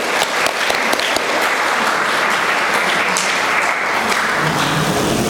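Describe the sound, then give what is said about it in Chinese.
A church audience applauds people who have become Christians, a sustained, dense, steady wash of many hands clapping at even loudness for several seconds, with no voices over it. “我们要给他一个掌声鼓励。”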